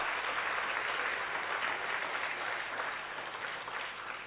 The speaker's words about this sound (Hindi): तो जोरदार इस सभी संतों के लिए, महामंडलेश्वरों के लिए, महानुभावों के लिए, रहनुमाओं के लिए जोरदार करतल ध्वनि से जोरदार ताली हो जाए।